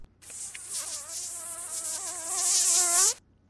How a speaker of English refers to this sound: Ah, got them. Mosquitoes.